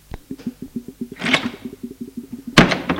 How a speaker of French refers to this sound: La porte de l'allée s'ouvre et se ferme.